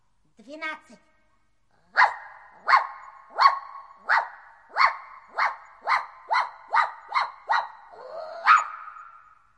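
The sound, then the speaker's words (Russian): A dog gives a brief whine, then after a pause barks about a dozen times in a quick, evenly spaced run, fairly loud, ending with a slightly longer bark. “Прыгай в лодку, фарфоровая собачка.”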